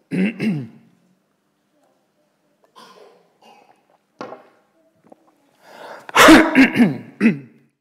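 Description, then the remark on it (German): Someone coughs and clears their throat into a headset microphone, several harsh, breathy bursts spread over a few seconds, ending in a loud cough pair. “Ja, wenn ich jetzt nicht das Ding auf hätte, dann hätte ich jetzt nicht in das Ding gehustet.”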